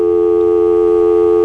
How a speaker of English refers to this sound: When you press the operator button, you should hear an annoying dial tone. Well, yeah, I got a rotary dial phone here from 1970 or so.